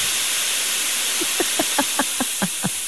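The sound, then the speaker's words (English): A steady hiss of steam from a clothes iron, with a quick run of about eight rhythmic pumping pulses partway through as the steam burst is pressed, with no talking. “That is the steam press of an iron, in case you don't iron and are unfamiliar with that sound.”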